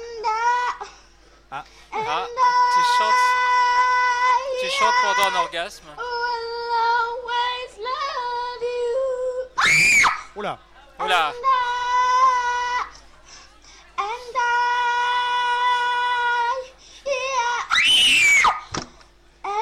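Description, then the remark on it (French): A baby screams and cries loudly and almost continuously, in long high-pitched wails broken by short gasping breaths and sharp bursts. “Attention, faut pas trop crier, ça peut faire des larcènes.”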